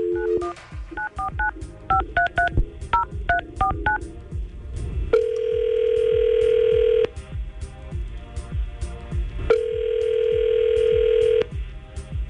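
A phone is dialed with a quick string of touch-tone beeps, then an outgoing call placed by the Tampa Bay morning crew of radio station 99.5 QIK rings twice with long, steady ringback tones separated by a pause, over a faint rhythmic backing beat.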